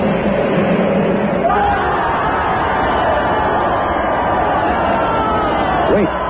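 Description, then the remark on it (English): A dense, loud crowd at a temple roars steadily throughout, many voices calling out at once, with a few higher shrieks rising above the din near the start and again near the end. “The crowd is calling.”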